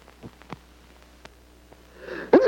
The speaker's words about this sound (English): I feel terrible. I've been sneezing and coughing, my throat's scratchy. I feel achy and I need some rest.